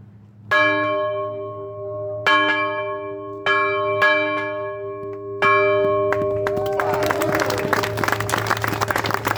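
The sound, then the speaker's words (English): A large, resonant courthouse bell on the courthouse lawn is struck four times at a slow, uneven pace, each ring lingering, before a crowd breaks into loud applause and cheering. “you have the honor of ringing the bell. I will let you know ahead of time that this bell makes a little bit of racket.”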